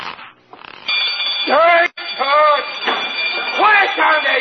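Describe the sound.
A burglar alarm bell rings loudly and continuously, its harsh clanging filling the scene while a voice shouts over it in rising, wavering bursts.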